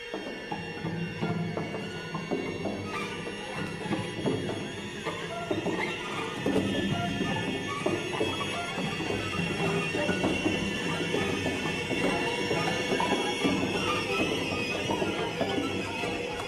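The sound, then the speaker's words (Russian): Dense, dissonant string orchestra music: massed sustained clusters, screeching high tones and rough scraping textures that hold at a steady, loud level throughout, with no voices. “У него такая очень неуютная музыка, да, всякие там, у него есть посвящение Хиросиме, да? И... Плащ по Хиросиме, да, я думаю, можно включить кусочек.”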